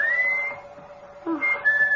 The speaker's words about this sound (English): …'s whistling for you.